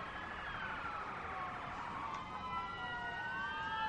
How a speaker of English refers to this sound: Some loud sirens going past the ballpark now. Hopefully everybody's okay. It's happened a couple of times this week.